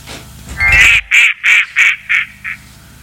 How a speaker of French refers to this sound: Eh ben, on passe au coin-coin. Eh ben oui, le coin-coin.